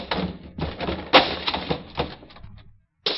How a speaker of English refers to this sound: Open that door, Pearl. Come on. You can't get out the back way. Well, you're going to open it? All right, let's break it open.